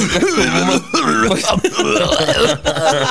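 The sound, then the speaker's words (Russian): A person imitates coughing with a quick run of four loud, rasping vocal bursts, each with a throaty, voiced edge and only brief gaps between them. “Просто скоро требования красноярцев на митингах просто прекратят членораздельно воспринимать, потому что один кашель будет.”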